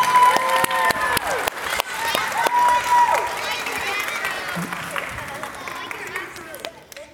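A large audience applauds steadily, with dense clapping, scattered cheers and a few shrill whistles over the crowd's murmur, holding loud for several seconds before gradually tapering off.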